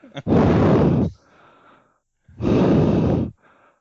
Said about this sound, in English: Can we do 10 seconds of heavy breathing? Yes, go ahead and do 10 seconds of heavy breathing.